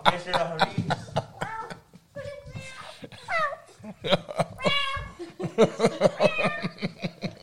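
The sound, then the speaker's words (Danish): A dog lets out a series of high, nasal whines that rise and fall much like a cat's meows, with some human voices mixed in. “Nogle gange er der mere kat over ham, end der er.”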